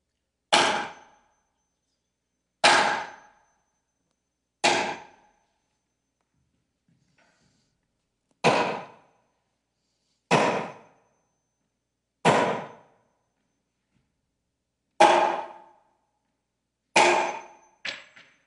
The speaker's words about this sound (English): But you see, what happened was that I left because as I heard those nails hammering in, I thought of those nails in my hands and my feet, and the sound of those hammers drove me farther and farther away.